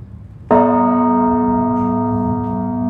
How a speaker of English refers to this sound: Manny starts by sounding the largest of the bells, which weighs almost 3 tons. When it rings, I can feel the vibrations in my bones.